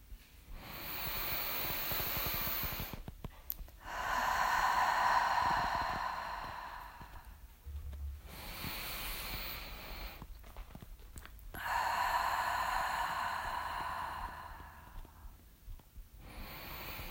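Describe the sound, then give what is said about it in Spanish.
Slow, deep breathing through the nose and mouth in a relaxation exercise, with no talking: a soft, airy inhale followed by a longer, louder, hissing exhale, repeated in an even rhythm about twice, with short quiet gaps between. “Vamos a hacer 4 respiraciones.”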